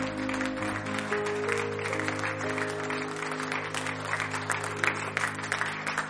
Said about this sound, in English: Give him a hand clap of praise tonight.